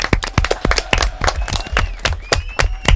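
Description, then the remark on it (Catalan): Applause from a small group, a flurry of sharp, uneven claps at a moderate level, with faint whistling tones and some voices mixed in. “D'acord, molt bé, un aplaudiment.”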